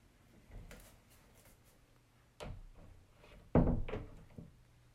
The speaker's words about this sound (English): So, is it okay if I close the door now, Professor? Okay.